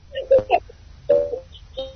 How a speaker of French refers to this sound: J'entends le bébé qui est en train de s'amuser.